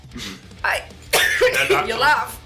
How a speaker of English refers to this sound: I'm laughing at your coughing, sorry.